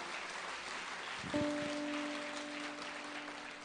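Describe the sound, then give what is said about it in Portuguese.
A crowd applauds the Lord Jesus Christ in a steady, dense wash of clapping throughout, and partway through a sustained keyboard chord begins and holds beneath the applause. “Se você quer isso, aplauda o Senhor Jesus Cristo, glorifique o nome dele e fala, Senhor, eu quero.”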